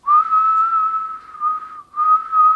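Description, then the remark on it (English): Someone whistles a steady, sustained tone as part of a vocal exercise, holding one pitch with a brief dip and breath break near the end before resuming. “And if you can whistle, whistle.”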